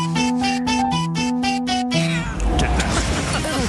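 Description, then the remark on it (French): A female cat gives a brief meow near the end, partly buried under a loud engine rumble, after a quick run of repeated, evenly paced musical notes. “Avec le petit miaulement à la fin.”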